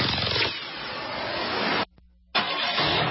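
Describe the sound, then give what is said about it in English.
A car engine turns over and roars loudly, drops out abruptly for a brief moment leaving only a faint low hum, then surges back in. No voices. “Your engine is the heart of your vehicle.”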